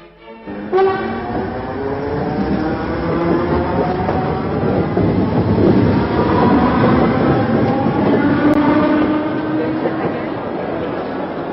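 An RER regional express commuter train arrives at Saint-Germain-en-Laye, France, almost beneath the château, its electric motors whining in rising, layered tones over a steady loud roar of wheels and carriages for the whole stretch.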